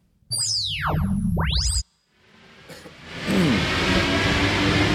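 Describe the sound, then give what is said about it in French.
A brief swooping electronic sound effect opens, then the steady, loud rumble and hiss of a Paris metro train interior builds up as the car rides from Saint-Mandé toward La Défense in the morning, with no talking. “On vient de prendre le métro, donc à Saint-Mandé, direction La Défense.”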